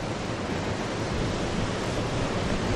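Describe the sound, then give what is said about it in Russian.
Rough ocean surf roars steadily, a dense, unbroken wash of crashing water with a windy edge, no voices heard. “И вот океан бушует.”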